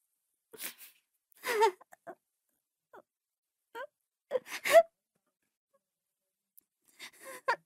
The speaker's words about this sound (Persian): اگه گریه کنی اشکال نداره. یه قطر اشک گریه حساب نمیشه.